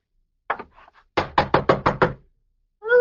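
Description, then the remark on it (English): A police representative knocks on a guest's chamber door at an inn: two quick knocks, a brief pause, then a run of five firm, evenly spaced raps, fairly loud, with a voice starting just at the end. “Open the door. No games, dear. It's too early. Who is it?”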